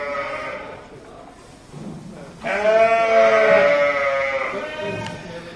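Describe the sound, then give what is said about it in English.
A chorus of sheep bleating in pens, with one loud, drawn-out bleat swelling over a background of quieter calls from a crowded flock, with faint murmuring voices mixed in. “An awful lot of pens containing an awful lot of sheep.”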